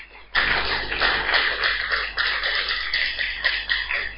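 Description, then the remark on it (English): A church audience claps for the Lord and for themselves in a dense, steady patter that starts abruptly and keeps going at an even loudness for several seconds, with no voices rising above it. “Then clap for yourself now.”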